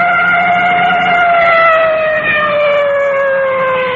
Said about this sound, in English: Coming up to a large intersection, now you can hear that full treatment on the siren.